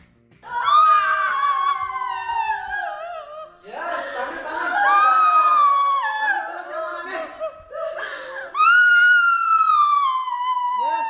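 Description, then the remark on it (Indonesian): Several participants in a catharsis therapy session in Ubud, Bali, scream, wail and sob together in loud, overlapping, drawn-out cries that sweep downward in pitch, pausing only briefly twice before the anguished chorus surges back, intense. “Menjerit, menangis, berteriak. Itulah yang dilakukan para peserta pada sebuah sesi terapi katarsis yang berlangsung di Ubud, Bali.”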